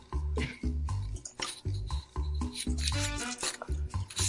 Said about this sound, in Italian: Chi è che sta armeggiando in questo modo vicino al microfono? No, sono io con la gomma da masticare